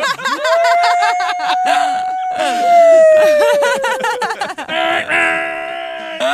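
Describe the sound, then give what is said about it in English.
A former firefighter imitates a fire truck siren with their voice: a long, loud, sustained wail that slowly falls in pitch, amid laughter and chatter from others. “It's because I used to be a firefighter and I used to hit the button so like I could mimic it perfectly.”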